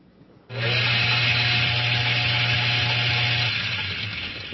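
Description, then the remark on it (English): An electric blender switches on abruptly and runs at a steady, loud whir with a low motor hum, continuing without pause for several seconds; no one speaks over it. “A frog in a blender. Now, what happens if I turn the switch on? I'm adding energy.”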